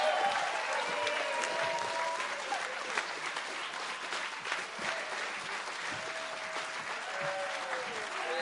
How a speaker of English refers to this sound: Yeah, let's give him a really warm round of applause.